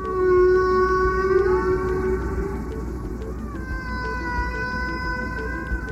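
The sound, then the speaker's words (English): Humpback whale song: long, eerie moaning tones that slowly bend in pitch, one sustained call giving way to another over a steady watery hiss, with no voices present. “Also in this podcast, the man who introduced the world to whale song.”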